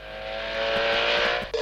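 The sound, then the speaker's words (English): A Trabant 601 car engine, built by VEB Sachsenring Automobilwerke in Zwickau, German Democratic Republic, runs steadily, its buzzy two-stroke drone rising slightly in pitch before a brief shift near the end, with no voices present. “Trabant 601.”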